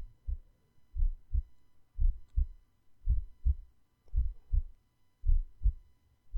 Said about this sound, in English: I'm just going to lay my ear on your chest to hear your heartbeat, okay?